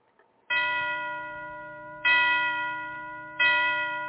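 A church bell tolls three times at a slow, uneven pace, each deep, resonant strike ringing out and fading into the next. No voices.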